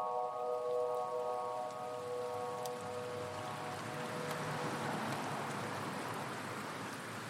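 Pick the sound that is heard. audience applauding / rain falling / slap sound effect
rain falling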